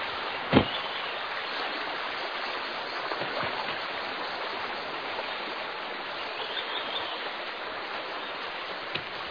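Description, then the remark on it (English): A freshwater stream flows steadily beside a rock wall among fruit trees, a constant rushing wash of water with no voices, broken only by a sharp click near the start and another near the end. “Fresh water, rock wall on our backs, lots of fruit trees.”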